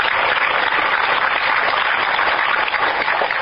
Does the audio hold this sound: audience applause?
yes